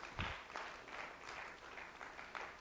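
A crowd gives the Lord a hand clap one morning, with steady, dense hand clapping that holds at a fairly even level for a couple of seconds, with a few louder claps standing out near the start.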